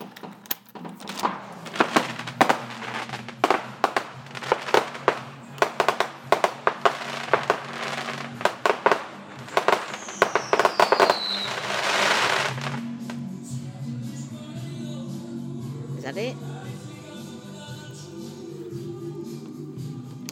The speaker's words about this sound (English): we're missing all the fireworks. Quick.